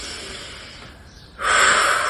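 A breathy exhale fades, then a sudden loud gasp pulls air in sharply and holds for a moment, as a speaker pauses mid-talk to catch their breath. No one speaks.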